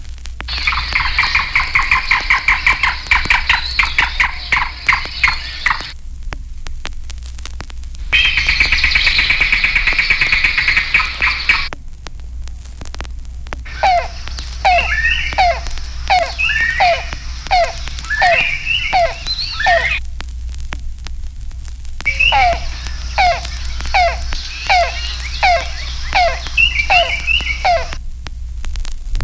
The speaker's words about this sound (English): The yellow-billed cuckoo, nicknamed rain crow, is a shy woodland bird more often heard than seen.